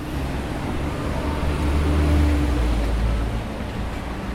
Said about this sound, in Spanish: 2 autobuses son lo más ruidoso.